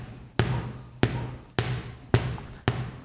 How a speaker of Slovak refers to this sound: Udrieme ho medzi lopatky 5 krát.